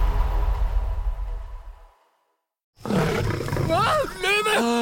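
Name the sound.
lion roaring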